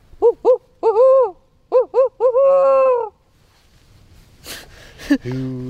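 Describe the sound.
A person mimics a barred owl in a small forest on Bainbridge Island, west of downtown Seattle, voicing a rhythmic run of loud hoots that ends in a long drawn-out note, followed by breathy noises and a brief vocal sound.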